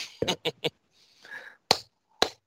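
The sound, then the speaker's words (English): Sharp, crisp hand claps: a quick run of three, then a breathy Ric Flair-style whooping "Woo", followed by two more single claps spaced about half a second apart. “And until next time, boys, I guess that's two claps and a Ric Flair, and let's go Blue Jays.”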